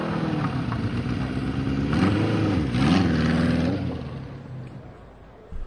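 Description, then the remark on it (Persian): A trail motorcycle engine revs up and down in a steady drone, pitch rising and dipping, then fades as the rider pulls away, heading for a military headquarters. “حمید سوار موتور تریل شد و به سوی قرارگاه شتافت.”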